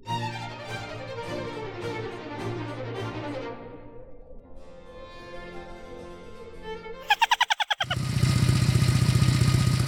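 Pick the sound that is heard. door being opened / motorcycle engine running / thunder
motorcycle engine running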